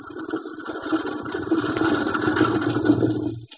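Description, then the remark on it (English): A steady engine idles with a low, rumbling drone and a continuous mid-pitched hum, holding even for a few seconds before cutting off abruptly at the end as the ignition key is turned off. “Kill your ignition. Kill it. Turn off the key.”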